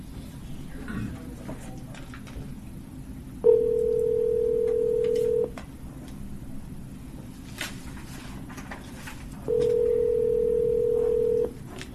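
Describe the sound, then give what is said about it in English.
A steady electronic telephone tone sounds twice, each lasting about two seconds with a pause between, as a phone call is being placed, over a low background rumble and no talking. “I'll just get him on the phone at one time and proceed from there.”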